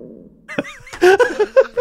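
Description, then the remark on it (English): A cat meows in a drawn-out, speech-like way, a string of fairly loud wavering calls after a brief soft intro, almost sounding like it's trying to say a word. “the talking cat, only seemed to have one note or one word.”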